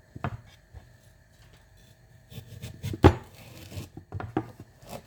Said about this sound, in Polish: Więc, co my z nim robimy? My go po długości na pół kroimy, tylko żeby ten nóż, kurwa, co to jest za nóż?